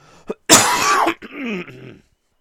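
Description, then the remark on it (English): A loud burst of coughing followed by a rougher, drawn-out throat clearing, lasting about a second and a half, with no talking. “So I watched, hang on, I need to cough.”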